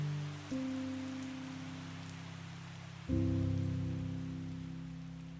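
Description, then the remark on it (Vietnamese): Steady rain falls at night, hissing softly throughout, a continuous wash of drops beneath two sustained, swelling musical chords that enter one after another. No one speaks. “Đêm đã dày và một cơn mưa vừa trút xuống.”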